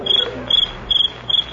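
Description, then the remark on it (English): A cricket chirps, a noise made by rubbing its hind legs together, in four quick, evenly spaced bursts of high trilling, steady, over a faint low background hum with no voices. “It's some noise they get by rubbing their legs together.”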